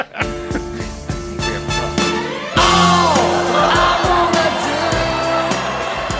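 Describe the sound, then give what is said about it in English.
Steady music plays, then a loud crowd erupts at about two and a half seconds, cheering, whooping and yelling over the music until the end. “The crowd is so into it.”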